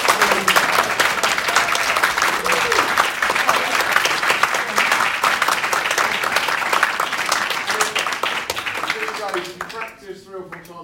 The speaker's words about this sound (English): Whilst they're getting ready, it's worth just celebrating what they've all achieved in such a short space of time. So musical and such good notes, and I think it's just amazing. So just give them a huge round of applause.